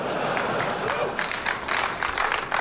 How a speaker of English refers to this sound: Getting applauded for that.